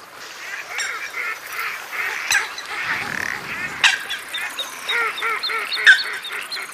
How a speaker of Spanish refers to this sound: Bueno, la zapatiesta de los patos cuando vuelven al amanecer a su descanso, a su refugio.